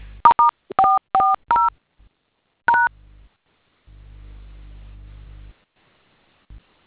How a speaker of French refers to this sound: Composez le code étoile 440. Prenez un téléphone. Vous composez étoile 440.